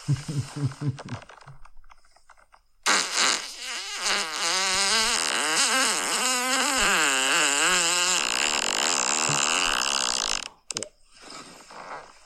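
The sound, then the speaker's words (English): A man lets out one long, loud fart lasting several seconds, its buzzing pitch wobbling and bumping unevenly before cutting off abruptly. “I love how a lot of these are just boyfriends farting on their fucking girlfriends.”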